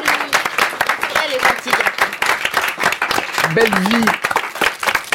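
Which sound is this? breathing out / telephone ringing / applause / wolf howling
applause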